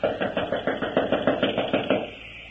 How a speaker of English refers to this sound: Here, it's this door. Well, there doesn't seem to be anyone stirring about inside. Knock again.